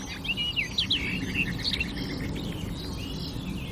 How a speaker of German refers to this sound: der schöne plätschernde melodiöse, plappernde, aber auch volle Gesang der Sperrbargrasmücke. Ich bin gerade ein klein bisschen abgelenkt, weil sie gerade ein bisschen frei sitzt und ich sie gut sehen kann.